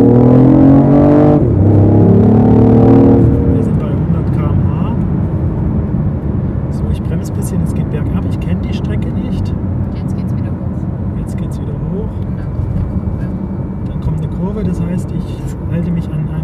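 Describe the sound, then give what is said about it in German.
An automatic car accelerates at full throttle, its engine revving hard with rising harmonic tones for a few seconds, then settling into a loud, steady roar of road and engine noise that continues throughout. “Es ist Automatik, es ist ungewöhnlich, man will immer kuppeln, wenn man sonst Kuppel fährt mit seinem Golf mit 75 PS, aber man kann sich gut gewöhnen, wenn man auch an dem Auto aufpasst mit dem Fahren, finde ich.”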